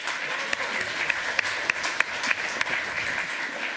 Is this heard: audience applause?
yes